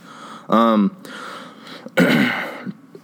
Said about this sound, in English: Dude, I got this cough, and I feel bad for you guys because you got to hear it.